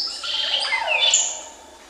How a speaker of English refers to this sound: I remember standing there in the Belize forest, the rainforest down there, just listening to what I might hear, and then this bird comes along.